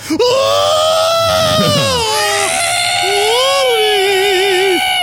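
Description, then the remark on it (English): A white deer's shrill, piercing scream rings out loud at a bedroom window, wavering in pitch and stretching on for several seconds with barely a pause, sounding almost human. “The white deer was staring at me with pinkish-red, soulless eyes. It screamed.”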